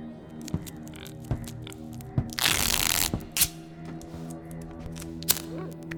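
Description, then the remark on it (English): A strip of duct tape is ripped off the roll in one loud, sustained tearing burst, surrounded by scattered clicks, scrapes and crinkles as it is handled and pressed down over a person's mouth; nobody speaks. “can you grab some of the duct tape and tape her mouth?”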